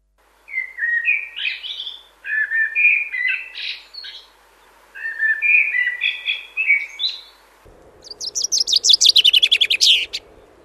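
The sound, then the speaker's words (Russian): Birdsong from a thrush and a chaffinch: three varied, fluty phrases come first, then a bright, rapid chaffinch trill that speeds up and ends with a flourish. The birds sound clear, with no voices. “конечно, запросто бы различила голоса дрозда и зяблика, а вот неискушенным нашим слушателям все-таки трудновато.”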